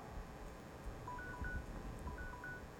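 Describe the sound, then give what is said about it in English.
An electronic device beeps in two pairs of short, mid-pitched two-tone chirps, spaced about a second apart, over a low background hum. The beeps are fairly faint and no one speaks. “Something's beeping here, and I don't see where the off button's off.”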